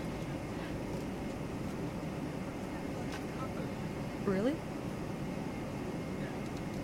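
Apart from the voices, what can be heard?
airplane cabin ambience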